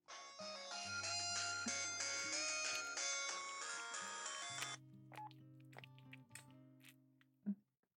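phone ringing

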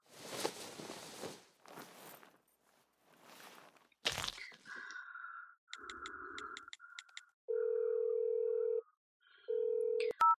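telephone dialing tones

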